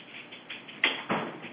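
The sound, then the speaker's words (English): A dog bangs against a door to be let in: two dull thumps about a quarter second apart, standing out from a quiet, low background hiss. “And hold on, I got to let my dog in. You can hear him banging at the door.”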